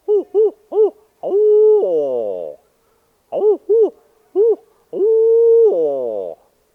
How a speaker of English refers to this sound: And down along the river swamps, along the St. John's in the Ocklawaha, you might hear old hoot owl stand tall as a nail keg, some of them really big back in those river swamps.